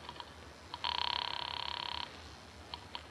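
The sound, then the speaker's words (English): A few short electronic beeps of a phone being dialed, then one long, trilling telephone ring lasting about a second, followed by more quick dial beeps; no one speaks. “So, with my arms still around her, I reached for the phone.”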